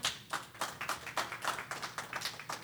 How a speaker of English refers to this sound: Come on, somebody, get a Lord a hand clap. Amen.